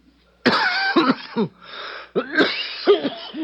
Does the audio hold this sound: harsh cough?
yes